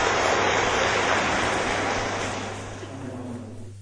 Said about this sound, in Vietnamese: Để lắng nghe lời giải thích từ cái người Phật giáo, thì xin quý vị dành cho tràng pháo tay đối với Đại Đức Giác Hoàng.